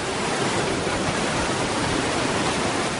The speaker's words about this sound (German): An diesem Morgen, Punkt 9, steht er auf dem Hof der Tierklinik. Direkt daneben rauscht der Vorsat-Fluss.